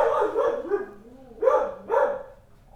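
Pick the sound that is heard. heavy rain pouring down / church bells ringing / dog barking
dog barking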